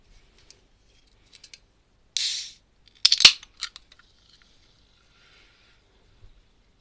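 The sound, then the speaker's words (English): A few light clicks, then a brief hiss and a sharp crack as an orange fizzy drink can is opened, followed by a soft, faint fizzing as it's poured. “I'm going to have one of those new drinks that just came out. I'll just get it.”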